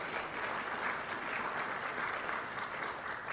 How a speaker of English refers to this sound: give him a big round of applause to start it off.